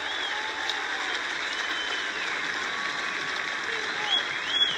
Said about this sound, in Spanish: Nuestro ministro de Economía, que está ahí, Daniel Mas, un aplauso también.